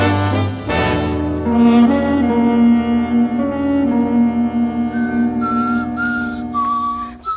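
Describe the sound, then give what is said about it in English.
Someone whistles a wandering tune for several seconds, the notes held and sliding from one to the next, steady with no talking. “that whistling. You're driving me crazy.”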